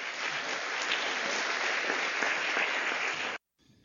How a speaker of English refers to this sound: So I know it's a little bit unusual for us, but why don't we welcome Doug Wilson this morning with a Westminster round of applause.